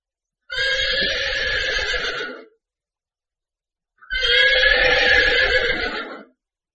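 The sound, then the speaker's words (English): A horse neighs twice, loud, each whinny lasting about two seconds with a shrill, quavering tone, separated by a brief pause of silence. “But he can't ride a horse.”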